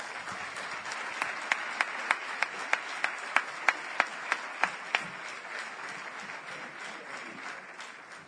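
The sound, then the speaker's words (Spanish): An audience breaks into applause for two speakers, one a bull breeder, coming up to give a talk: a dense wash of many hands clapping, with a run of sharp, evenly spaced claps standing out in the middle before the clapping gradually thins and fades. “Un fuerte aplauso para los dos.”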